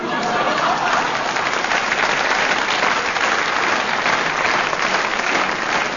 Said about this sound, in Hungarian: Na most, jó van, ne tüntess, csak tapsolj.